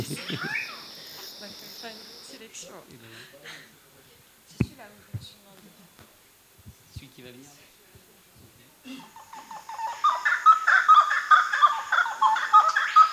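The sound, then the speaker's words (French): A pair of grey-cowled wood rails sing a duet: loud, rhythmic, cackling calls repeat quickly and build in intensity after a quieter stretch of faint clicks and rustles. “C'est le râle de Cayenne, non ouais.”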